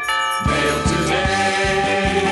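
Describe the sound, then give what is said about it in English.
Upbeat theme-song music with bright jingle bells shimmering continuously over sustained chords and a steady, thumping low beat, adding a Christmas touch. No one speaks. “I was going to say, do you hear Jingle Bells?”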